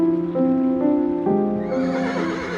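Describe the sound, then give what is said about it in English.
A drawn-out, eerie ghost horse whinny sound effect with a wavering, quivering pitch that rises and trembles toward the end, loud and alone with no talking. “So I guess when I interrupt from now on, you'll hear a ghost horse whinny.”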